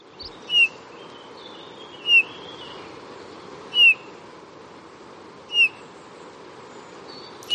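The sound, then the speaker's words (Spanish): Eurasian bullfinch song: five soft, piping whistled notes spaced about every second and a half, each brief and clear over a steady low background hiss, with no one talking. “Hay un caso muy curioso, que es el del camachuelo.”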